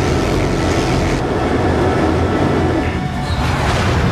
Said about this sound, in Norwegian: Lyden av jetpack. Og lyden av kanonen du har på ryggen. Dette er Dark Void. Og dette er et spill hvor du har jetpack gjennom hele spillet. Faktisk, her er spillet designet rundt at du har jetpack. Ja. Og det var veldig ambisjøst. Ja. Det er fra 2009.